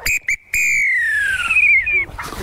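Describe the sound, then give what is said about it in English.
An Acme Thunderer referee whistle blown: two quick short toots, then a longer shrill blast that slowly sags in pitch before cutting off. No one talks over it. “Here's your first crack at the Acme Thunderer.”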